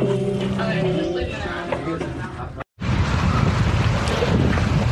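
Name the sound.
strong wind outdoors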